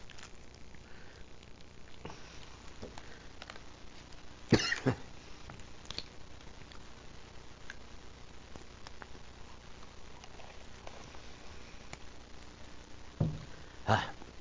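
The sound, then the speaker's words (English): A few sharp coughs and throat clearing, one burst around the middle and another pair near the end, separated by quiet stretches with faint background hiss and no talking. “Had a cough drop and gave up.”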